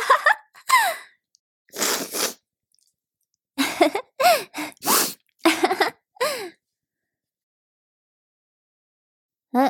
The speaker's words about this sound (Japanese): なんか辛いせいか鼻むずむずして。くしゃ、くしゃ、くしゃ。くしゃみ止まんなくなっちゃった。